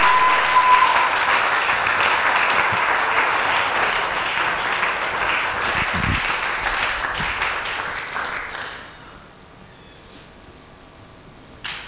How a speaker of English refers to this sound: Oh, come on. I want you to clap. There are some young people at the back. They are not clapping. I want to see them clap.